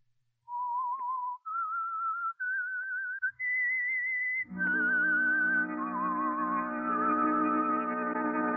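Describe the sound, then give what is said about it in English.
The whistled theme tune of The Whistler: four sustained notes climbing step by step, each with a slight wavering vibrato, then a full orchestra swells in beneath as the whistled melody carries on. “Now back to the Whistler.”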